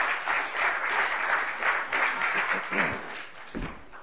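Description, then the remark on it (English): A crowd gives a round of applause for a group that has just performed, many hands clapping in a dense, continuous wash of noise that holds fairly even in loudness for a few seconds, with a brief low thump near the end. “Round of applause.”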